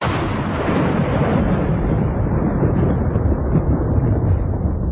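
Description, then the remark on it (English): A deep, continuous roll of thunder rumbles loudly and steadily for several seconds, low and heavy, with no voices. “Kind of nice to hear the thunder going out occasionally.”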